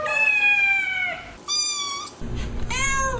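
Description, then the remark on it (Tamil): A cat meows three times in close succession, loud: a long drawn-out meow, a shorter one, then a final meow over a low rumbling background noise. No one speaks. “பூனைகள் எவ்வாறு நம்முடன் தொடர்பாடல்களை வைத்துக் கொள்கின்றன என்பதை நாம் துல்லியமாக அறிந்திருக்க வேண்டும் என்கிறார் ஸ்வீடனில் உள்ள லண்ட் பல்கலைக்கழகத்தின் ஒலிப்பியல் பேராசிரியர் சூசன் ஸ்காட்ஸ்.”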